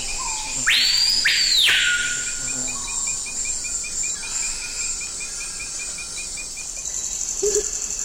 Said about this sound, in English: So many birds. What are the sounds we're hearing? Now, that's the colorful cry of the surprisingly drab screaming peahawk.